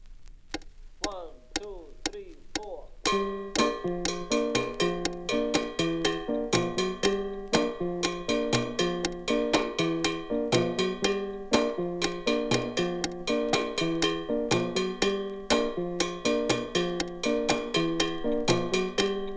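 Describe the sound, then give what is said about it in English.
A metallic cowbell plays a brisk, steady mambo pattern of repeated strokes with accented beats and alternating bright and muted tones, preceded by a few sparse opening hits. No voices. “This rhythm is performed either on the small cha-cha bell or on the large mambo bell.”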